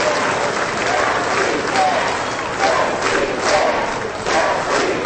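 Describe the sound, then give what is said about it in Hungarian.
Sustained, dense applause from a large crowd in the US House of Representatives after the announcement of the vote passing a health care reform package, steady and loud throughout with a few faint voices and cheers mixed into the clapping. “A szavazás eredményének bejelentését hatalmas taps követte.”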